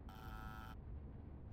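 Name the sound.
door buzzer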